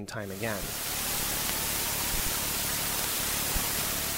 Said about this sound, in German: Die Rohdaten von Kepler. Ins Akustische übertragen ein chaotisches Rauschen. Scheinbar. Denn mit raffinierten mathematischen Methoden schaffen es die Experten, Muster aus dem Chaos zu destillieren.